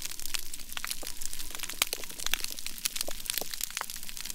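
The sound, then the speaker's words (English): Dense, continuous crackling of hundreds to thousands of snapping shrimp clicking their claws on a healthy coral reef, countless sharp clicks popping irregularly over a low underwater hiss, steady and moderately loud with no voices. “that's the sound of hundreds and thousands of snapping shrimp all clicking their claws”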